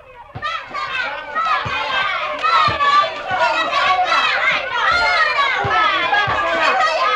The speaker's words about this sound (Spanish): Del sol y de otra cosa, del espectáculo de los niños jugando al fútbol en el campito.